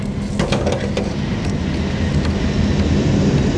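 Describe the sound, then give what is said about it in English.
A steady low rumble of a car rolling along slowly, filling the whole stretch at an even loudness with a few faint clicks and rattles on top and no talking. “Oh, the car driving here. This way, this way. Slow, slow, slow down.”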